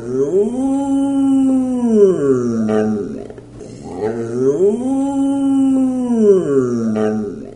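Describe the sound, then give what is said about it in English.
An animal named Pongo howls twice, each a long, loud, wavering moan that rises, holds, then slides down, with a short pause between the two. No one speaks. “Every night when Pongo howls, we look right at each other.”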